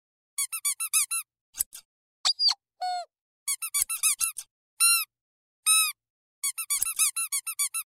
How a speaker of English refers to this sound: Laura, can you please quit squeaking that toy?